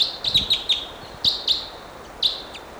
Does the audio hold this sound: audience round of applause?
no